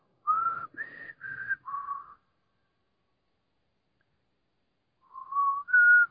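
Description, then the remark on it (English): A person whistles a short tune of four clear pitched notes, pauses in silence for about three seconds, then whistles a few more notes. Fairly loud, with no talking. “Yeah, quoting as whistling sounds.”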